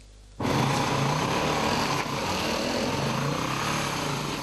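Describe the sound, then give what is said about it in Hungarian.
An off-road motorcycle ridden without a licence in a strictly protected forest area near Salgótarján, Hungary, kicks in abruptly and runs steadily at a loud, high-pitched drone, with a slight dip in intensity midway. No voices are heard. “Fokozottan védett területen motoroztak, jogosítvány nélkül.”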